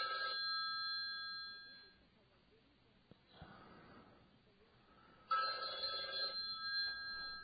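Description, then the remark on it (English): A telephone rings with a bright, steady electronic trill for about two seconds, falls quiet briefly, then rings again loudly for another burst. “Why is my phone on?”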